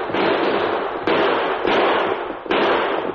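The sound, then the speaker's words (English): Four loud gunshots crack out at uneven intervals, each a sharp bang trailing into a sustained, noisy rumble that blends into the next. The shots are fired by an old passenger barricaded inside a stagecoach at outlaws. No voices can be heard. “Inside the stage, one passenger, an old man, had hastily erected a barricade, and it was his fire that caused the outlaws to call a halt to their plan.”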